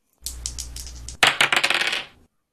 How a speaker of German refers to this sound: Dann tun wir es. Wir würfeln die Kategorie.